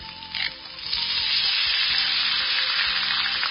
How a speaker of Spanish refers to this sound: Y está haciendo huevos fritos.